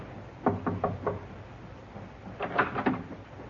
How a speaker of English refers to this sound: Captain knocked.